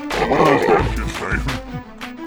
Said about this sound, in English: I'm burping because I'm so nervous. I'm nervous.